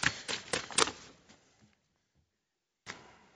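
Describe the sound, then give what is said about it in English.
Sheets of paper being shuffled and flipped as a speaker sorts three pages, some backwards and upside down: four quick crisp rustles in a row, a quiet pause, then one more papery swish. No one speaks. “I've got the first paper right side up and the remaining two upside down.”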